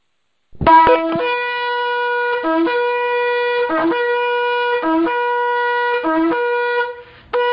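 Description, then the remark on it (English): A shofar (ram's horn) sounds one long, loud blast after another at a prayer meeting, each with a short low grunt before it rises back to a steady, piercing, brassy tone. No one speaks. “would you please release the sound of the shofar and the roar of the Lion of Judah”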